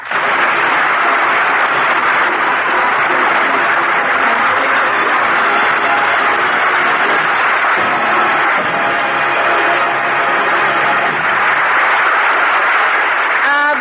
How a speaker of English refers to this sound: Bless you all for that applause.